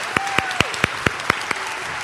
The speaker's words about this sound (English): We have one more special guest, and I need your help. Could you give a great big round of applause for our friend?